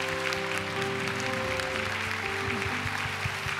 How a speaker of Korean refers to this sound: 지난 우리 40일 동안 우리와 함께하여 주시고 또 우리를 인도해 주시고 축복해 주신 우리 하나님께 감사와 영광의 박수 올려드리기 원합니다.